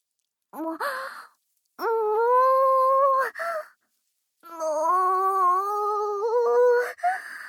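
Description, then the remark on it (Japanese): A voice imitates a cow's moo in three drawn-out, wavering calls, each a sustained low-to-mid pitched tone with a breathy tail, separated by short pauses. “牛さんの泣き真似がエッチなわけないじゃないですか。”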